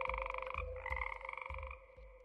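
A dense chorus of frogs croaking steadily in a swamp at night, with layered trilling calls overlapping in a continuous pulsing rhythm, fairly loud, no voices present.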